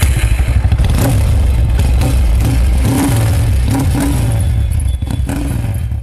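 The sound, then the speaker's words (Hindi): A motorcycle-type engine revs and rumbles steadily, with low throbbing and mechanical clatter, as the vehicle pulls away; loud throughout with brief surges in pitch. “बस इतने बात चली बैठी गाड़ी पर।”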